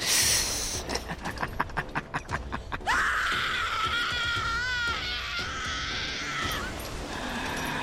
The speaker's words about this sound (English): Watch us feast as she screams for mercy.